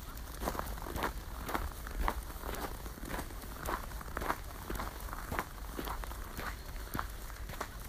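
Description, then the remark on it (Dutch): Steady footsteps walk outdoors at an even pace, each step a crunchy scuff against a low background hum, with no one talking. “Behalve mijn voetstappen.”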